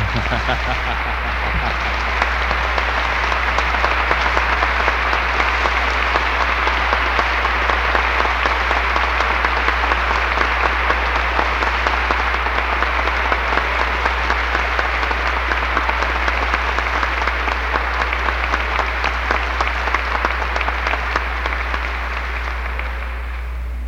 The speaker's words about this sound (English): And I would like the House to join with me in a rising applause.